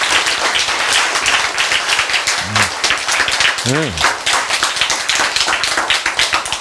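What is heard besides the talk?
audience applause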